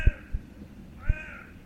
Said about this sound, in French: Les premières étoiles arrivent. Les oiseaux de la nuit sont là. Il y a pas mal de vols d'oiseaux. Bon, faut dire, c'est une zone humide, des étangs.